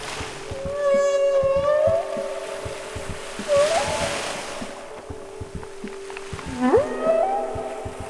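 Whale song underwater: long, sweeping tonal calls rising and falling, with a few rich harmonic moans spaced across several seconds, over a steady low rumble of water and faint clicking.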